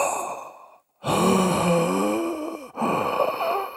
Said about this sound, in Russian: и потом он как бы хоп, из этой ерунды. То есть он вот так всей грудью набирает кислород.